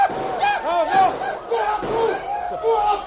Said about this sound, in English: Now give a war cry like Red Fox. Wave your arms.